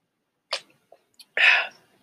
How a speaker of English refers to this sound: Excuse me, I need to take a sip. I'm only 6 minutes in, already my voice is hoarse.